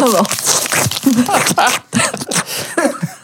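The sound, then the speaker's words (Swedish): A plastic candy bag crinkles and rustles in busy, uneven bursts for a few seconds as someone sits rustling it while watching a film, with a voice sounding over parts of the noise. “Och så man sitter och prasslar med påsen.”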